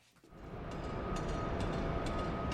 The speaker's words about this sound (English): The sounds of hammering and heavy machinery ring throughout the northwest corner of campus, where construction workers are putting the facade on a new engineering building.